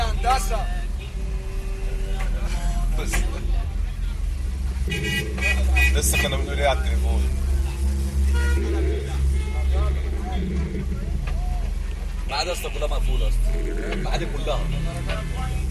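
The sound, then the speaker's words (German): Steady low rumble of street traffic heard from inside a taxi, with engines idling and passing, occasional car horn toots, and faint voices talking; in the street another taxi driver has parked his car and is directing the traffic himself. “Ich sitze immer noch im selben Taxi. Auf der Straße steht jetzt ein anderer Taxifahrer.”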